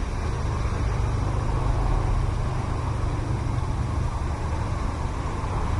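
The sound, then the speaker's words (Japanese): A large brown cicada, probably an aburazemi, sings from a chestnut tree at the end of August in a continuous, sizzling buzz that holds steady for the whole stretch, over a constant low rumble and with no one speaking. “アブラゼミですかね。”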